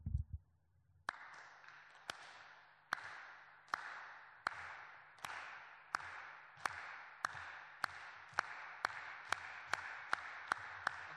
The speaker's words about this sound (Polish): Będziemy klaskać w momencie, w tym samym, co ja klaszczę. Będziemy starać się utrzymać jedno tempo, ok? Spróbujmy.